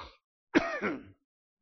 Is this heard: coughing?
yes